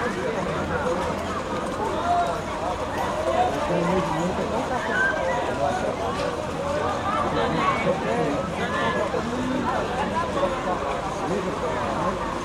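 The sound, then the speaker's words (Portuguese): A steady, dense patter of many hooves clip-clopping together, continuous and fairly loud, mixed with a busy murmur of crowd voices and background chatter throughout. “Nossa, é cavalo que não acaba mais, né?”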